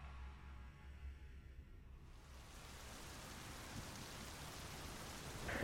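heavy rain falling

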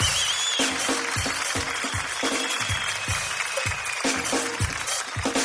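audience applause

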